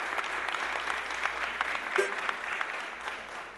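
A crowd applauds steadily, a dense wash of many hands clapping at fairly even loudness for several seconds with no voices standing out.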